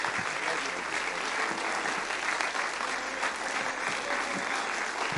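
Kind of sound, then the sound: crowd, audience applauding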